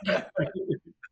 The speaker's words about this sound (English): made a cough sound, and then it was quiet.